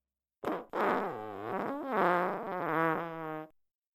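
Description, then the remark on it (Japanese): A long, loud fart from a big sister, lasting about three seconds, opening with a short pop and then stretching into a buzzy, wavering blast whose pitch rises and dips before cutting off. No talking. “いい匂いよね、お姉ちゃんのおなら。そうよね。じゃあもう一発嗅いでね。”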